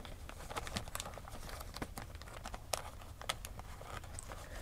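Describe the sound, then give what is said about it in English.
Plastic bag crinkling and rustling as it's opened, a dense run of sharp crackles and crisp snaps over several seconds with no voices. “Where's that plastic bag she gave me?”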